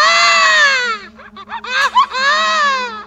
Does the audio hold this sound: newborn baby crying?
yes